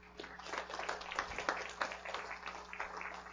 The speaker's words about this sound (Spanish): Aplausos a nuestro Dios.